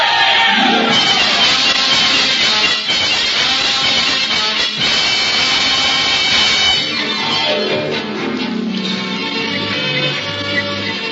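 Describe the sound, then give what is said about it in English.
A loud, dense carnival crowd shouts and yells over one another in a chaotic scuffle as the sheriff arrives, the clamor continuous, with occasional whoops rising above the din throughout. “Of all the mean tricks, the crowd was just beginning to warm up and spin, and the sheriff has to put in an appearance.”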